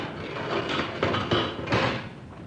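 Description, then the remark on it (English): A metal animal cage door rattles and clanks open, with a few sharp mechanical knocks and scrapes over a couple of seconds, moderately loud, with no voices, as someone goes in with a whip to tend the caged animal's bad paw. “Get ready to open the cage door.”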